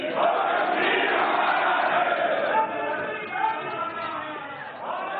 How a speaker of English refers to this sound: And it immediately provoked an outroar on the floor of the parliament, mm-hmm. with opposition politicians heckling him and booing and screaming.